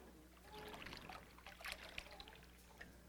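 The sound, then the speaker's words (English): Water pours steadily into a container, a continuous splashing trickle with small gurgles and drips, moderately loud, with no voices. “But actually, if I pour long enough, that will become absolutely clean, pure water with no trace of it.”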